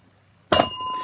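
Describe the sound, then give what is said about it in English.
A phone rings as a call is placed to a contact, with a single bright, bell-like chime that starts abruptly after silence and rings on with clear, steady high tones. No voices are heard. “Wait for it. It's ringing.”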